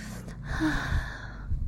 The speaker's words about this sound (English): I can feel, hear your breathing. Your breathing is kind of getting labored.